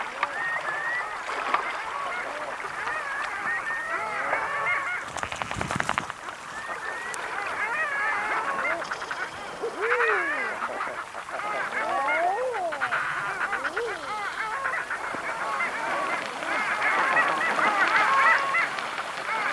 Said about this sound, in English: Here's the long-tailed ducks.